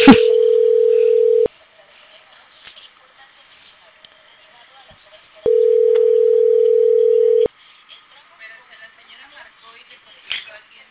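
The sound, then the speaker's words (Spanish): A telephone tone sounds twice as someone calls the phone, each a steady, loud two-second hum separated by a pause of about four seconds, with faint background noise in between. “Le marcaron al teléfono.”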